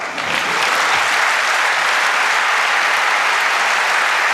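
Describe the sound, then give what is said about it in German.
Sustained audience applause, a dense, steady wash of many hands clapping at full volume throughout, with no voices standing out. “Applaus.”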